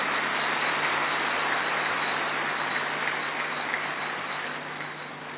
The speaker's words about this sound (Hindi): हम सभी जोरदार तालियों से उनका स्वागत करते हैं।